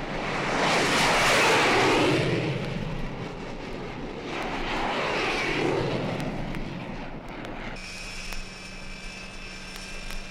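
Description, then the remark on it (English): Jet engines roar on the flight deck of a Navy aircraft carrier off the coast of Vietnam, the jets waiting for launch, in two loud, rushing swells, then settle into a steady high-pitched turbine whine over a low hum. “Its flight deck shrieks with jets, impatient for launch.”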